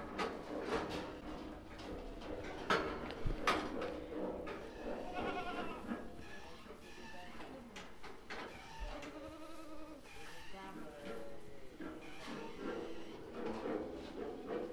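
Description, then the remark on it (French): A small group of ewes bleat repeatedly in summer, several overlapping calls with steady farmyard background noise and occasional clatter throughout. “Alors l'été, il y a toujours un petit lot de brebis qui restent là sur place, parce qu'il y a ou des agneaux trop petits ou des bêtes trop faibles.”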